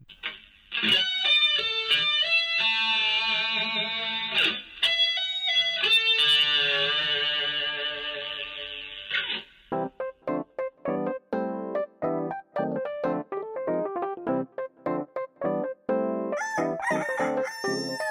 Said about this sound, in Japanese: はい、ジングルいきます。